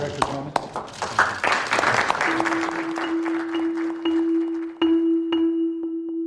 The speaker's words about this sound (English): Then there's this awkward applause.